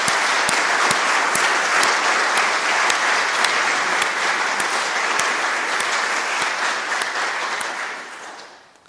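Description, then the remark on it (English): A church audience breaks into loud, sustained applause for its church wardens, a dense wash of clapping that holds steady for several seconds before tapering off at the end. No one speaks over it. “So can we just give them a humongous clap for being amazing?”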